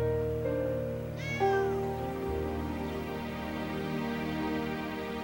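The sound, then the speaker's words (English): A single clear cat meow from a cat on a waking man's chest at dawn, rising and bending in pitch, heard over a steady, sustained musical drone that continues throughout. “awakens to find a cat on his chest.”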